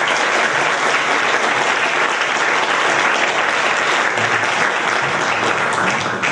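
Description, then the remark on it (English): An audience applauds steadily for a speaker being introduced, a dense wash of many hands clapping at a loud, even level throughout, with no pauses or voices standing out. “Very often, so I'd like to have a big round of applause, please, for”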